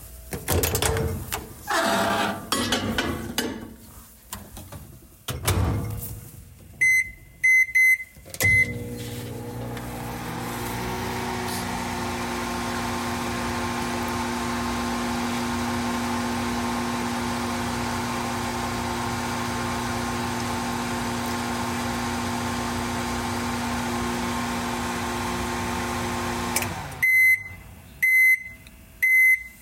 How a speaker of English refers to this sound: It was a microwave oven heating up a dish of leftover pasta.